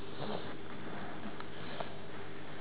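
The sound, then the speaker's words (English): A child blows and snuffles into a rag, making a few short, soft nasal bursts against steady background noise. The sound is fairly faint, with no talking. “No, use your rag. See this one. Here, baby. Blow your nose in the egg.”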